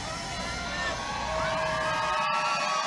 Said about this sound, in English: But we'll go ahead and cut away to the live stream at Right Side Broadcasting of President Trump and his wife and a crowd at Andrews Air Force Base.